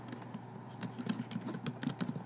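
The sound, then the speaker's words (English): Rapid, irregular clicks of fingers typing on a computer keyboard, moderately quiet, with a few sharper keystrokes standing out near the end. No one speaks. “Is it like tapping noise? Yeah, like clicking or something. Oh, that's me typing.”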